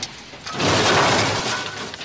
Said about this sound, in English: You're lost in your own world and barely register the passing cars until a sudden, sharp screech pierces the air, followed by the sickening crunch of metal.